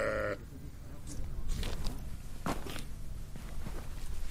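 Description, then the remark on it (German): A sheep in a pen of about 20 sheep beside a few tents in the hills gives a short bleat at the very start, followed by shuffling, scuffing movement and a steady low outdoor rumble, with a few more faint animal sounds in the background. “Hier stehen ein paar Zelte, in einem Verhau sind etwa 20 Schafe.”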